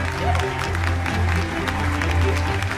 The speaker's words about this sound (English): Sitting in the audience, Chandra's father, mother, and brother beam and applaud.